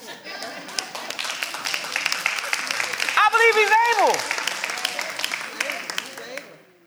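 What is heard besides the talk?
audience clapping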